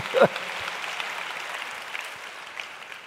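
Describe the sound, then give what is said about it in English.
An audience claps for God in a dense, steady wash of hand claps lasting about three seconds, moderately loud and even throughout, with a short vocal burst right at the start. “If it's season, give him a better hand clap.”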